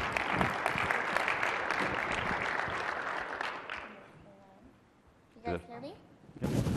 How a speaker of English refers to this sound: A little applause to her.